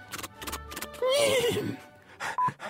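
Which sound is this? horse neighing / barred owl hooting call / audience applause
horse neighing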